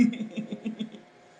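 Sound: burp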